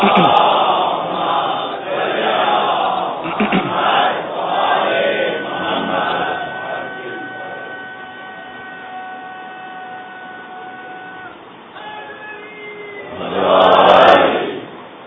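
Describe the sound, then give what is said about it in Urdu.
A large audience chants religious slogans together in unison in response to a preacher's lines, voices rising in loud rhythmic bursts, holding a sustained collective tone, then swelling again in a final loud shout near the end. “چلیں تبلیغی جملوں کے اوپر بھی الحمدللہ لوگ بیدار ہیں اور نعرے آ رہے ہیں.”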